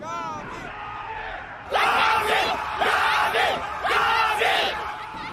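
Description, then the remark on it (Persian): A crowd cheers and yells in loud, rhythmic bursts, roughly three swelling waves of shouting voices after a quieter opening with a few scattered high calls. “… حسابی تشویقش میکنه.”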